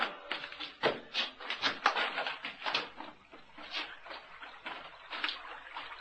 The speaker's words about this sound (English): Hear that? She was right. There's water down there.